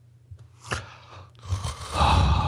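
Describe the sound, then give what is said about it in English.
Heavy breathing: a sharp gasp-like intake, then louder, raspy breaths that swell and hold toward the end, with a low rumble underneath and no talking. “My suggestion is that YouTube just has a filter where whenever there is an unboxing video, like whenever there's unboxing in the tags or in the title, they just automatically layer over heavy breathing.”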